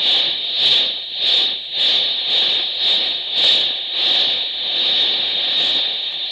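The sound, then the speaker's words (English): A train starts moving, chugging along with a steady, rhythmic puffing over a constant high-pitched hiss and rumble, the beats repeating roughly every half second. No voices are heard. “The train starts.”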